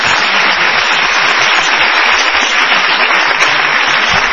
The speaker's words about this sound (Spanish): Muy amables, estamos en el Paseo La Plaza, en la Sala Picasso. Son ustedes muy amables y vamos a extender este aplauso para saludar a Patricio Barton.